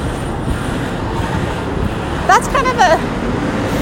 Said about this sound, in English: Hold on one sec. Big trucks going by.